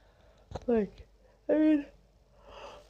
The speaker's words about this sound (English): I'm yawning. It's funny because I always record when I'm like sleepy.